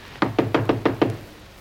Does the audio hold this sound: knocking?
yes